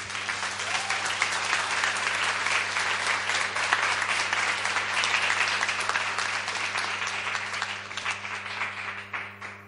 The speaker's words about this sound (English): It's been awesome and so many great people to meet, and I want you all to give yourselves, not me, a proper round of applause for being truthful.